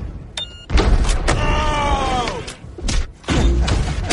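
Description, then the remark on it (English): Loud explosion sound effects burst several times in quick succession, with a descending whistling tone sliding down between the blasts and a rumbling low end throughout. “Yes, the explosion.”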